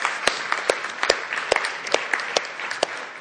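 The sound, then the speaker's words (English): A crowd at a UK Grace Church anniversary gathering bursts into steady applause, many hands clapping together in a dense, continuous patter with a few sharper claps standing out, sustained at an even level for a few seconds. “Yeah, I think you deserve a round of applause for that.”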